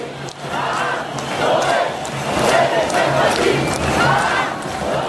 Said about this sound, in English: Here, this was August 6th, over 250,000 Israeli protesters in the streets. This was Tel Aviv, the massive crowd here chanting in Hebrew, "The nation demands social justice."